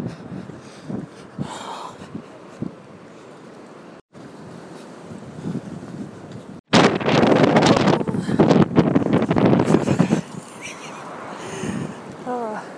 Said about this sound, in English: So fucking windy.